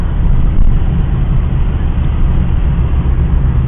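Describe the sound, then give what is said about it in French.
Steady, loud low rumble of road noise from inside a moving car with traffic flowing freely, a constant engine and tyre drone with traffic blending into it, no talking. “La circulation est fluide.”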